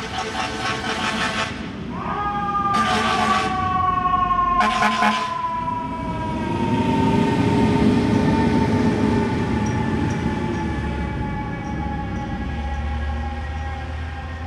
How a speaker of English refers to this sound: here is a thing that I call Freaky Fire Truck